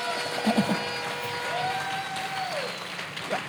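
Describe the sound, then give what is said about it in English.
A crowd claps steadily for Jesus during a sermon, a dense wash of applause throughout, with a sustained whistle-like tone rising briefly in the middle and a few louder bumps of noise. “if you believe like I do, clap for Jesus.”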